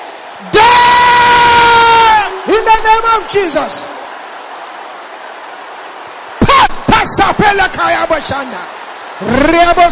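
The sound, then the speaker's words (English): A large audience shouts an oracle prayer together in unison, loud, in a long sustained burst, then breaks into ragged overlapping yells before another collective shout rises near the end. “Brothers, shout it loud and clear.”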